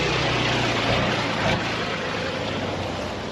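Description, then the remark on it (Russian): The heavy military vehicle of the battery's senior officer rumbles steadily as it drives to the firing position, a dense, continuous engine roar with a low droning hum underneath and no voices. “Машина старшего офицера батареи едет на огневую.”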